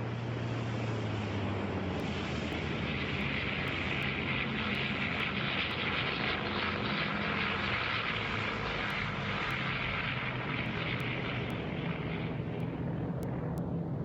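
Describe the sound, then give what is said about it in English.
Loud, steady roar of airplane engines at takeoff power, a dense continuous drone with a low throbbing hum, filling the whole recording without any voices. “After the initial takeoff, I move forward into the nose of the plane and put my parachute on my chair.”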